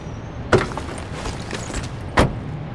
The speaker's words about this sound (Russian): Джип Бориса подъезжает к шикарному ресторану.